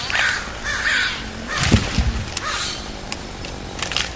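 Nesting crows disturbed by work on a tree caw in a couple of harsh, drawn-out calls near the start, followed by scattered thuds and clatter as the tree is felled against a steady background rumble.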